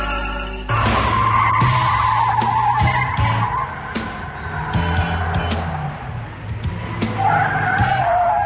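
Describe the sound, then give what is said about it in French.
A camper van engine suddenly roars to life on its own and drives off, with a loud, steady motor drone and squealing tires as it pulls away. “Je ne comprends pas comment la voiture a pu démarrer toute seule, bordel.”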